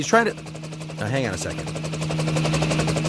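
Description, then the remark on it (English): A helicopter's rotor thumps in a steady, rapid chop with a low engine drone, fairly loud, while brief bits of voice come through over it; helicopter noise over a residential neighborhood in Los Angeles. “He's trying to change federal law to limit helicopter noise over residential neighborhoods in Southern California.”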